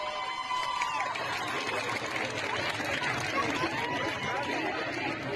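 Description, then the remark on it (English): A large street crowd of women protesting in Iran, marching, chanting and yelling at police, many voices overlapping in a dense, steady roar of shouting and chatter that stays loud for the whole stretch, with no single voice standing out. “Over the past few days, we have seen these scenes of massive crowds of women protesting in the street, marching, chanting, yelling at police, and breaking the laws around their hair.”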